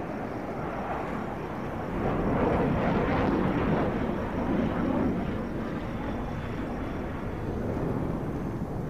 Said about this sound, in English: He looks up, pointing toward a plane.